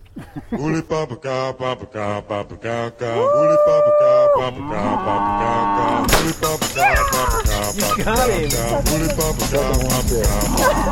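Cattle moo repeatedly in long, drawn-out, fairly loud calls, some rising and holding steady. Partway through, a denser wash of sound joins in, with more moos layered over it.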